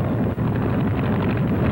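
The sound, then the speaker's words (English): A training airplane's motor on an Army flight-training flight roars in a steady, loud, low-pitched drone with a rough, rumbling texture, sustained throughout without any voices. “Next comes the training flight, so let the motor roar.”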